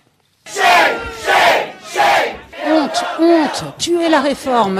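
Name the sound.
protesters chanting slogans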